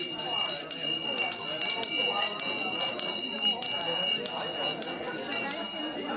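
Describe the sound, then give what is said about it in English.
A bell rings insistently, its bright, sustained tone ringing out over the steady murmur of many people talking at once, at a dating event where 12 men and 12 women sit at round tables; the bell signals time to switch partners. “Every few minutes, a bell would ring, signaling that it was time to switch.”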